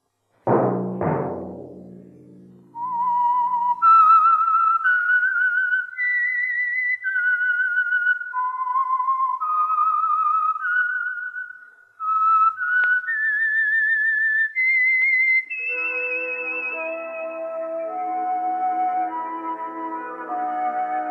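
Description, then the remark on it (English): A lone, clear whistled melody, the signature theme of a radio program, of stepped, slightly wavering notes rises and falls for several phrases after a brief opening hit, then gives way to sustained orchestral chords. No voices. “Let that whistle be your signal for the Signal Oil program, The Whistler, each Sunday night at this same time”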